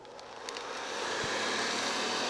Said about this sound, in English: That sound may make you think of housework. After all, a vacuum cleaner's job is to clean.